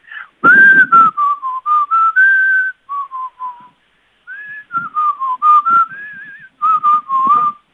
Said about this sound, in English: Can you please, though, sing it for us again? Can you whistle again? Whistle again.